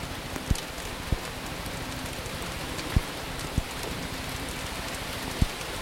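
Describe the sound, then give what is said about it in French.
Heavy rain pours down by a roadside just outside a village, where a car has pulled over, in a dense, steady hiss, with a handful of sharp, louder drops or knocks landing at irregular moments. No voices are heard. “Nous sommes surpris de le voir sortir de la voiture sous cette pluie battante pour continuer à parler.”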